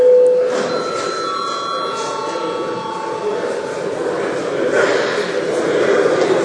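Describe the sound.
An electric bell rings in the Saeima to call deputies for attendance registration, continuously with a steady, high metallic trill, sustained over a murmur of voices and bustle that swells slightly toward the end.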